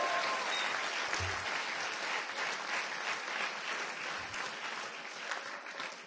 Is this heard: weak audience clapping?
yes